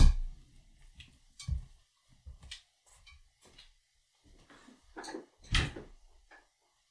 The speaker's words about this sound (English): One second. I got to shut my door again.